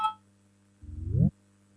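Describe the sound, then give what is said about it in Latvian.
A parliamentary voting bell, rung to call a vote on a proposal, sounds as an electronic signal: a quick high beep, then a half-second buzzy tone that rises slightly in pitch before cutting off abruptly. No one is talking. “Lūdzu zvanu, balsosim par 13. Juridiskā biroja priekšlikumu.”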